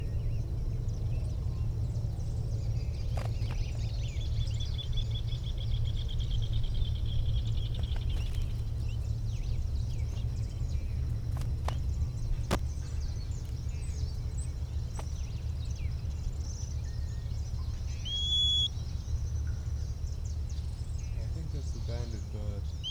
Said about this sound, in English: Bird nearby, maybe giving that little whistle.